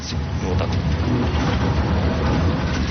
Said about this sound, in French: À bord de la ligne de tramway numéro 3, on traverse le centre-ville pour rejoindre la gare de Dnipropetrovsk.